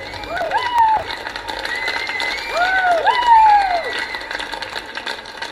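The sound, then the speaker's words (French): A crowd of 200 or 300 women cheers outdoors in the courtyard of an apartment building, celebrating the anniversary of equality during the women's strike of 14 June 1991, with high whoops and drawn-out shouts rising and falling over a steady wash of crowd noise and chatter. “elles sont 200 ou 300 à avoir délaissé aspirateur ou machine à écrire pour fêter l'anniversaire de l'égalité.”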